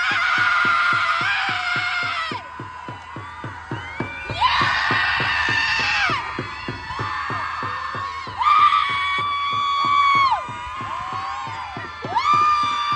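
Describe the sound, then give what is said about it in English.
A crowd of progressive women gathered in a park in New York for an International Women's Day protest lets out long, loud screams of rage in several sustained bursts, with a steady rapid drumbeat pounding underneath throughout. “Progressive women gathered in New York in a park to collectively scream in rage during International Women's Day protest.”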